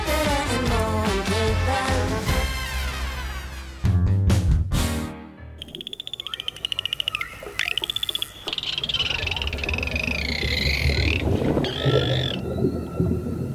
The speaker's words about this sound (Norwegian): Fin lyd? Jo. Det er delfinlyd. Det er sånn flipper.